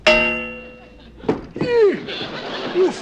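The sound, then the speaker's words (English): Someone bumps into one of the metal pipes in front of a porch with one loud, bright clang that rings and fades for about a second, then people exclaim and talk. “If nobody was out there, who hit you? That thing! I forgot it was in front of the porch, one of the pipes.”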